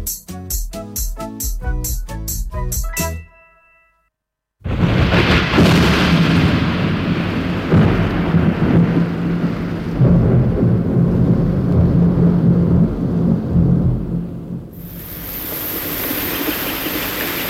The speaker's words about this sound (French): Tiens, voilà la pluie. Ah, quel sale temps!